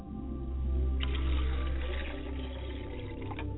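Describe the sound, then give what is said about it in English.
Water is poured steadily into a vessel as a libation for a few seconds, a continuous trickling splash over a low background rumble, with no one speaking. “And I pour libations to the ground and say, Ashe, I pour water for my mother's side of the family and set a glass before her side of the family.”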